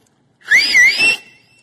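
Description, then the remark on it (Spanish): A single loud, shrill whistle lasting under a second, gliding up and wavering in pitch with a breathy edge, heard on its own with no talking. “Y un silbido.”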